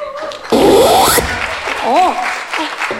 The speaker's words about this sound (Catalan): pagui la tele, que estic sentint no sé què d'aplaudir per allà dintre.